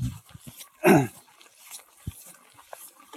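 A dog lets out one loud, sharp bark, with a few faint thumps and quiet background rustling around it.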